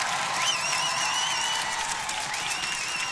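crowd, applause and cheering

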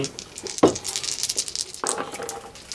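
household object, dice rattling and rolling

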